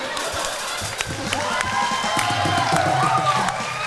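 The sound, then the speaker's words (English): A live audience bursts into applause, with dense clapping and scattered whoops and cheers rising over a steady crowd roar for a few seconds. “Don't applaud that.”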